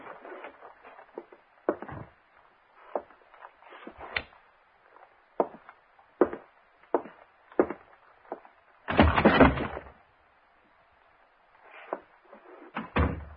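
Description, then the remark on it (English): A door being unlocked and opened: a run of sharp clicks and clunks at an uneven pace, a louder rough rattling burst as it swings, then a few more knocks. No one speaks. “I remember locking the door.”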